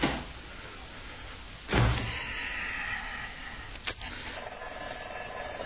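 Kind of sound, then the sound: household object, door closing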